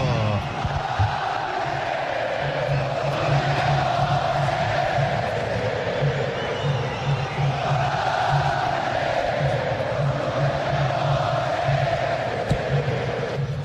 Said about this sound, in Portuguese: todo mundo ligado na Granal, um Brasil de audiência, ouçam a voz que vem da garganta do torcedor colorado.